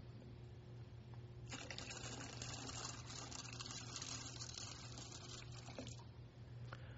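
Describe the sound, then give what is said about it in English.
Water pours steadily into a baptismal font for about four and a half seconds during a church liturgy remembering baptism, a continuous splashing rush that starts abruptly and then tapers off, over a faint low hum. “Sisters and brothers in Christ, through the sacrament of baptism, God's Spirit has been poured out upon water. Water poured out over and immersing us.”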